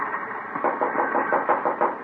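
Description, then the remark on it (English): A quick series of muffled knocks on a locked train compartment door, about half a dozen raps in an even rhythm, with a low rumbling background and no one speaking. “Yeah, it's locked. Knock.”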